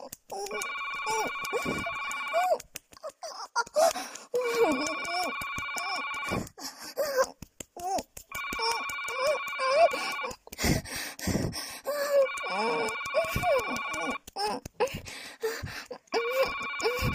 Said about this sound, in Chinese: 好像是我，难听的电话，娘可不可以先停一下？把你的大鸡巴停一下，让我接个电话。